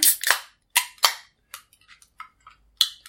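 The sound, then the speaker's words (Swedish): A cork pops as a bottle of Apple Nouveau, a Christmas-themed apple-flavoured drink with snowflakes on it, is opened. It is heard as several sharp, bright cracks: a few loud snaps early on, then softer clicks and a final crisp pop, with no talking. “Då korkar vi upp och ser om någon julstämning inför sig.”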